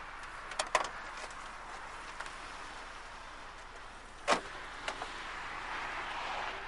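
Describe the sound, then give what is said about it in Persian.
A car is being parked: a steady engine hum runs throughout, broken by a few sharp clicks and a short thump, like a door or latch. No one speaks. “شما بریم تو، من ماشینی رو پارک کنم بیام.”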